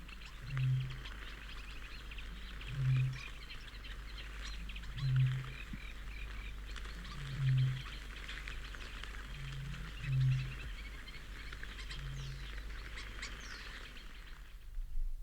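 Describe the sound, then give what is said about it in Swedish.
A deep, booming bird call repeats close by, a very muffled and powerful sound heard through the night, about six low thuds spaced a couple of seconds apart, over a steady backdrop of other birds and insects. “Det är ett mycket dovt och kraftigt ljud på nära håll.”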